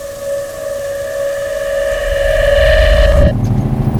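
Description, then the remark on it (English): A trash truck (a dump truck) engine runs loudly, a steady high mechanical whine over a rumbling motor that grows heavier, then the whine cuts off abruptly, leaving rough engine noise. “I didn't realize trash trucks were so loud. Technically, it's just a dump truck.”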